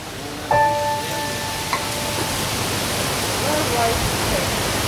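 Wind rushes in a steady, full hiss throughout at the southeastern shores of Lake Turkana in northern Kenya, a warm, dry desert area, with a brief harmonic whistling tone rising out of it early on before fading back into the roar.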